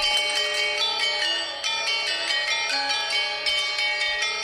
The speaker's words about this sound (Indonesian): Selain serangkaian gending-gending Jawa, konser itu juga menampilkan ensemble gamelan Bali dengan sederet lagu, termasuk lagu Hujan Mas yang dimainkan pada gamelan Gong Kebiar.